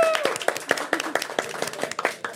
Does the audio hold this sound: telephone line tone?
no